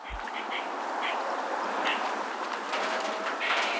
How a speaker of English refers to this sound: And that was a wild squirrel chirping from one of her backyard trees, sounding the alarm about my presence.